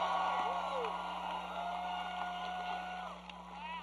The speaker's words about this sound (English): Please give a warm, thunderous round of applause for Reverend Al Sharpton!